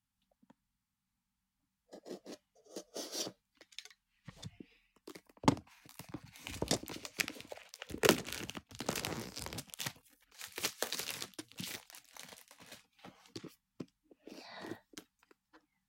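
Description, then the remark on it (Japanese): Crinkling and tearing of packaging as a not very large box holding a vibrator is opened, with irregular bursts of crumpling, ripping and rustling building in intensity and continuing in quick, uneven clusters. “箱はね、そんなに大きくない、あ、これぐらいだろうなって思ってたぐらいのサイズだな。開けていきます。”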